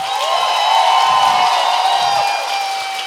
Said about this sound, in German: Ja. Applaus für euch. Das war am lautesten.